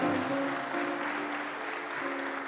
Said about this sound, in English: Let's give God another round of applause for, it's good to be in church. It's good to be in church.